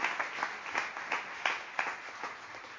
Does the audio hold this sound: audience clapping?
yes